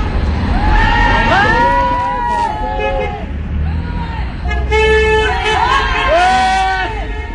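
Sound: passing cars honking horns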